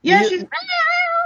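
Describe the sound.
A person imitates a cat yowling: two loud, drawn-out meow-like cries, the second rising and held longer, with no other talk.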